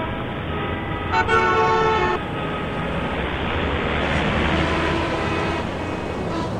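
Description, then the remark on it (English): Dense gridlocked traffic on a six-lane road, mostly heavy goods vehicles, trucks and tankers, rumbles steadily while a loud car horn blares for about a second near the start, followed by a continuous wash of engine noise, with no one speaking. “moving at a crawl, pedestrians moving along these endless lines of cars releasing choking fumes, motorists who have been sitting in this gridlock swearing at each other viciously.”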